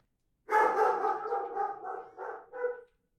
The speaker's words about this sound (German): Sie stolperte über fremdes Grundstück, fiel und fürchtete, von einem drohenden Hund gestellt zu werden.